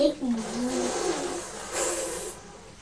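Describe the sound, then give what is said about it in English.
A lift motor whirs steadily as it rises, a moderately loud mechanical hum with a gliding tone and hissy noise lasting a few seconds, with a faint voice-like murmur mixed in. “Well, not too fast because I think it might be dangerous going up in the lift very quickly.”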